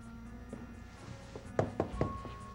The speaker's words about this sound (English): knocks on the door.